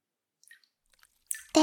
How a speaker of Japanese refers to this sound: それに、水音も聞こえて、癒し効果も抜群だよ。